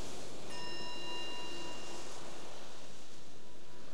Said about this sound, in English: So once again, the bell will transition us.